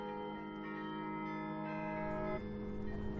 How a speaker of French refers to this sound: À Fontaine, ils entendent le bruit du carillon. L'air humide, c'est idéal aussi pour porter les sons. Les sons se propagent mieux quand c'est humide.